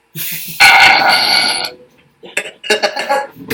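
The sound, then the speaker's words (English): A long, loud, raspy burp rumbles for about a second, followed by a brief pause and then a few shorter choppy sounds that trail off. “That's what you call burp.”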